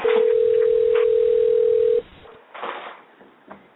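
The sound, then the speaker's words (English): A steady electronic ringback tone purrs over a phone line for about two seconds on an outgoing call to a bookshop in Carytown, then cuts off, leaving quiet line hiss with a few faint, muffled bumps. “All right. Let's see if we can get her. Ringing.”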